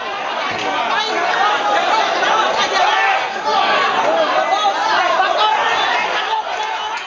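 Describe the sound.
A packed crowd roars and shouts over one another, a dense, unbroken wall of excited voices calling out bets around a cockfighting ring in the Philippines as the birds fight, loud throughout.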